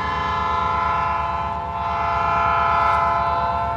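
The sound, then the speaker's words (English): A long train full of coal from Appalachia rolls steadily past at a coal terminal in Norfolk, with a dense, continuous rumble and clacking of wagons, overlaid by a sustained horn-like tone, and no voices. “Along with the world's largest naval port, Norfolk is also home to the hemisphere's biggest coal terminal, where long trains full of coal from throughout Appalachia empty their loads into waiting ships for export around the world.”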